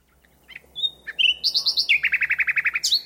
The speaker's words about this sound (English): 15 years ago, we began inviting friends over to hear nightingales at NEP, our home and rewilding project in West Sussex. Suddenly, nightingales were popping up in the thickets of scrub that had begun to cover our old arable fields.